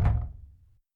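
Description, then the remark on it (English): A single heavy knock or thump on a door, with a low booming resonance that fades out in under a second. No voices. “Don't get the door.”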